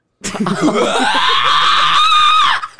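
A person lets out a loud, sustained high-pitched scream lasting about two seconds, preceded by a few breathy, laugh-like bursts, close to the microphone with no other sounds.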